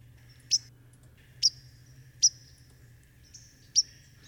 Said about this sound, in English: So let's listen to the chip note or the call note of the white-throated sparrow.